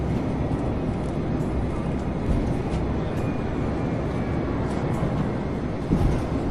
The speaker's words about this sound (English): Oh no, that's freaking cool. We heard planes passing fast as we moved, as we were moving. That was sweet. I never heard that before.